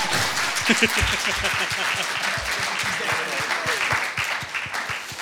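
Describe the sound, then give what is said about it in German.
Sustained audience applause for the band, a dense, steady wash of many hands clapping for about five seconds, fairly loud and even throughout, with a few sharper individual claps standing out. “Gib doch mal der Band einen Applaus.”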